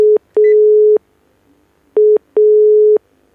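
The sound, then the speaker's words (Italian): A steady telephone tone sounds in two pairs of short, evenly spaced beeps separated by a pause, like a busy signal, as a call to a radio guest fails to ring through. Clear, with no talking. “Non vuole squillare il professor Ritmo? Non vuole. Niente da fare.”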